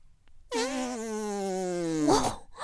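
A long, drawn-out fart with a steady buzzing tone that slowly sinks in pitch, ending in a brief airy sputter. Fairly loud, with no voices. It is a hot, smelly fart released onto a man's erect penis.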